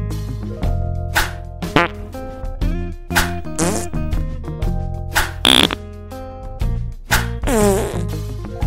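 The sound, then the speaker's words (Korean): A rapid series of loud, buzzy, sputtering fart sounds, one after another with short gaps, some long and drawn out, others quick squeaky bursts, prominent with no talking, farted in turn at a younger sibling under a blanket. “그렇게 동생에게 연속 파렌타의 방귀를 먹이자 동생은 그대로 기절해버렸어.”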